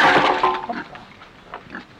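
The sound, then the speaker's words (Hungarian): A small pig grunts and squeals loudly at the start, then settles into softer, scattered snorts and grunts over the next couple of seconds. “Na, az idegenek fél, az nagyon szép kis malac, ez ronda, nem mész innen kifele.”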